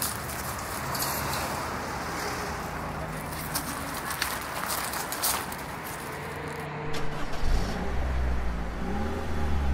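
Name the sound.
car engine revving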